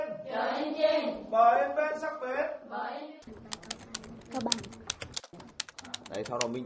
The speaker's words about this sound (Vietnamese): Đêm xuống giữa đại ngàn Trường Sơn, tiếng gõ bàn phím lạch cạch, những cụm từ như vi tính, căn chỉnh hay xí mép ba vốn lạ lẫm với đồng bào các dân tộc Khơ Mú, Thái, Mông ở khu vực biên giới.